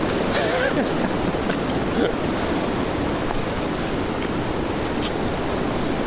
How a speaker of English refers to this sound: The temperature was well below freezing, with wind gusts over 50 miles per hour. Ooh, those trees are moving.